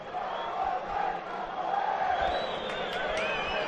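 A large stadium crowd shouts and chants in a steady, dense roar, voices rising and swelling together with a few sharper yells cutting through near the end.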